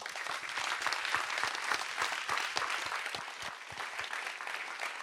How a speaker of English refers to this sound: It's tremendously important work, and they deserve your applause.